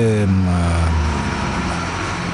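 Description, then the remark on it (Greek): A car passing by outside, its engine rumble and tire noise carrying in through an open door as a steady, fairly loud whoosh, with a brief voice-like tone at the very start. “Μου τράβηξε την προσοχή το αυτοκίνητο που περνάει απ' έξω γιατί έχουμε ανοιχτή την πόρτα.”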